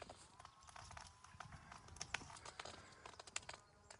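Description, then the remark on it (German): Faint, distant sawing by people at work with saws, a series of irregular rasping and knocking strokes over soft outdoor background noise, with no one speaking nearby. “Irgendwelche mit irgendwelchen Sägen in der Ferne zugange.”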